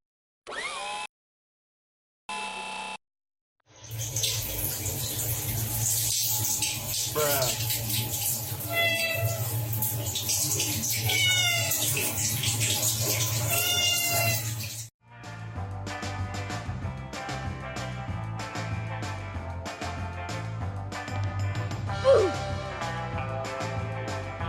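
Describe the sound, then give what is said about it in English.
A cat meows repeatedly over steady running water, the cries rising and falling, followed by a quieter stretch with clattering and another short meow. “When something strange enters cat's brain, it's there forever.”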